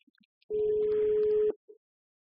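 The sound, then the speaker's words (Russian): A telephone line tone for an incoming call sounds once, a steady mid-pitched electronic beep lasting about a second, fairly loud, with no talking, just a brief faint blip afterward. “Следующий телефонный звонок.”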